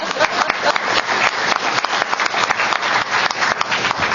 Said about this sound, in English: So as stand-ins for the hundreds of CCB members who have helped in this effort, I'd like to give a round of applause to the front row and all of you.